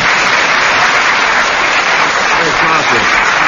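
Steady, loud audience applause for Tim Brooke Taylor, a dense wash of many hands clapping at once with no pauses, holding at an even level throughout.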